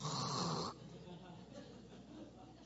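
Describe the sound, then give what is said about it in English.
A man gives one loud, raspy snore lasting under a second, then it drops away into a quieter, breathy background hum. “Not only that, he snores.”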